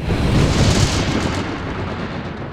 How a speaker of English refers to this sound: And there were noises and thunderings and lightning, and there was a great earthquake, such a mighty and great earthquake as had not occurred since men were on the earth.